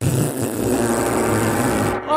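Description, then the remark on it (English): A person blows a loud, buzzy mouth raspberry imitating a fart, one sustained rattling blast lasting about two seconds and cutting off abruptly. “I'll make the fart noise.”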